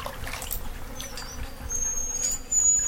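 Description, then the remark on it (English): Flies buzz steadily over the surface of black water in an open outdoor hush, a thin high whine drifting in and out as they circle, with no voices. “Flies buzz at the surface.”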